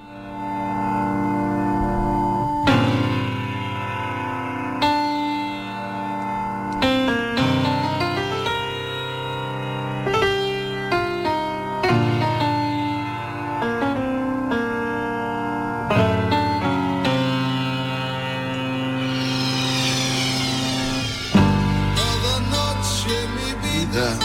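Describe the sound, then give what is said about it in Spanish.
Andalusian rock music plays loudly and continuously, with full-band instrumentation, sustained chords and shifting sections, and no voices talking over it. “Vamos a poner otra música, una música más, que a mí coincido contigo.”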